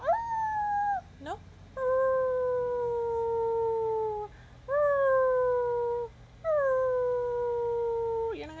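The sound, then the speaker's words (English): A pet dog that has just woken up howls in four long, drawn-out wails, each sliding slightly downward in pitch and separated by brief pauses, with no talking. “I thought he was gonna do his weird howling crying.”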